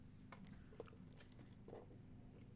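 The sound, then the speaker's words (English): A wet gulp of someone swallowing a drink, followed by a second softer mouth sound a moment later, over a low steady hum with no talking. “You swallowed so loud.”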